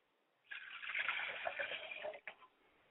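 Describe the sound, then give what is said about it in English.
Liquid is poured toward the south, a steady splashing trickle for about two seconds that stops abruptly, followed by a brief final dribble. No one speaks. “So we pour to the south going up.”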